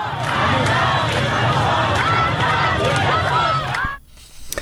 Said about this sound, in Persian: رمزی که شاید در فریادهای این زنان و مردان معترض تفسیر شود.